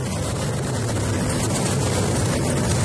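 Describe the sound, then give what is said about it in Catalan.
A Russian Ministry of Emergencies seaplane skimming the sea to scoop up water to drop on a wildfire in Antalya province, Turkey: a steady, loud engine roar mixed with a broad rushing, hissing wash of water that holds constant throughout, with no voices. “Això és un hidroavió del Ministeri d'Emergències de Rússia carregant aigua al mar per llançar-la sobre l'incendi que crema la província d'Antàlia, a Turquia,”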